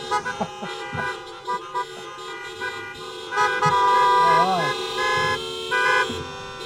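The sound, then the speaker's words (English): A chorus of car horns, honked by kids sitting in the driver's seats after the last prayer of a church service held in cars, sounds in overlapping bursts, short toots and longer blasts, with cheering voices mixed in among the noisy, celebratory din. “As the last prayer is spoken, the kids move to the driver's seats. And, well, have you ever heard of a joyful noise?”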